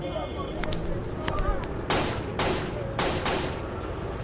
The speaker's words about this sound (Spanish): Justo en la puerta de ese hotel, un hombre que llevaba esperándolo en el lugar cerca de 5 minutos le dispara varias veces en la espalda y en una pierna.